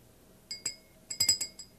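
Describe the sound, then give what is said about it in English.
A small porcelain bell, hidden behind a box, rings in a quick run of bright, high clinks, several strikes close together with a lingering tone, with no talking. “Porcelain bell.”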